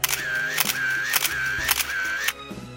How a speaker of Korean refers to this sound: 커피 한잔 들고 산책길을 걷다가 일몰 풍경에 반해 카메라 셔터를 쉬지 않고 눌렀다. 1초, 1분마다 하늘색이 계속 변하는데 한순간도 놓치고 싶지 않았다.